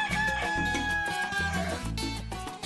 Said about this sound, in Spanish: 6:01 de la mañana, ya está aquí el gallo amanecido está cantando y los está invitando a todos ustedes a sumarse acá a la familia de Tempranito y de Mañana.